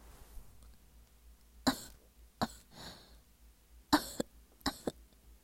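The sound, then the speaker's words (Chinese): Several sharp, deliberately forced coughs come in two short clusters, a pair early and a quicker burst of three later, fairly loud over a quiet background with no talking. “我故意咳嗽一下，将两位年纪完全可以做我爸爸的大叔的身子从我这白嫩嫩的娇躯上推了回去。”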